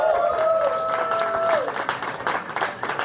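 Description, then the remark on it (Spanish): An audience at a live show breaks into loud, dense applause for the opening performer, many hands clapping at once in a steady wash, with a sustained high tone ringing through the first half before fading out. “Un fuerte aplauso”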